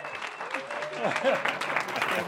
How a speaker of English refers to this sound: Let's give them an Egyptian round of applause.